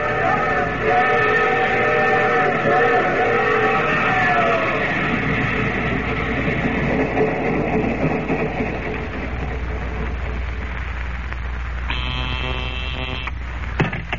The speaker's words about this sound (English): Well, the train halted, then. It's off.